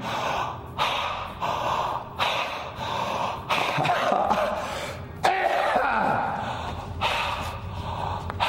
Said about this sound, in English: Breathe erratically, open the chest.